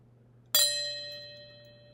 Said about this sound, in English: Let's continue this practice until the bell sounds in 15 seconds.